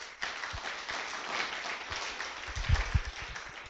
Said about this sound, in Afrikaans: So kan ons net vir hulle hande klap vanoggend.